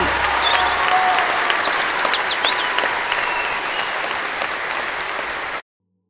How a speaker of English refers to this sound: Applause, applause, applause to me!